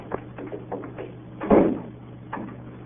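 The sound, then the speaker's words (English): A door is shut and locked: a few soft knocks and rattles, then one heavy, dull thump, followed by a fainter click near the end, with no talking. “Lock the door.”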